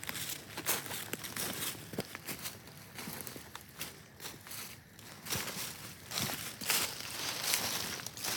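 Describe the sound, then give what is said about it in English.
Crisp rustling and crinkling of a paper towel, with scattered sharp tearing bursts and soft handling noises continuing steadily throughout, as it is taken out outdoors among leaves to mark a speck of blood on a trail; no voices present. “So let me grab the paper towel.”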